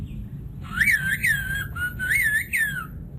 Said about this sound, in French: On comprend presque le grec quand on a le Ephaïsto et qu'on entend le sifflement des Ephaïsto.